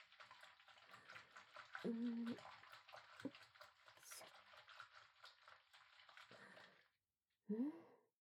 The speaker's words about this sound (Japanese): ソープとローションもいるわね。泡立てるから少しだけ待っていて。